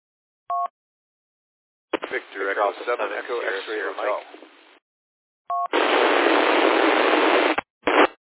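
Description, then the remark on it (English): A radio tone beep and a tinny, band-limited voice transmission, then another beep followed by a loud two-second burst of harsh radio static from doubled transmissions, ending in a brief crackle, during check-ins on the Rainbow Country radio net. “Okay, there was a double there.”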